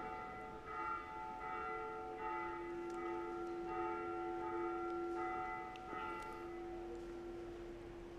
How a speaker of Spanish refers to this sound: Mientras paran las campanas.